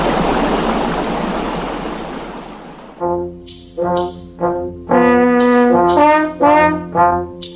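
Loud, steady rushing of stream water fills the first three seconds, then cuts off abruptly and gives way to a series of short, tonal, musical bursts.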